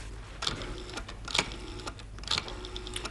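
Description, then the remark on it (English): A clock ticks steadily on a bright winter morning, with sharp clicks about once a second that stand out against a low, constant background hum. No one speaks. “What does the clock say?”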